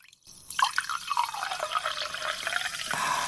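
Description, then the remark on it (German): A woman pours herself water into a glass, a bright splashing gurgle whose pitch creeps upward as the glass fills, running continuously for a few seconds with no voices. “Die Frau hat Wasser mehr, die Frau muss sich Wasser einschenken.”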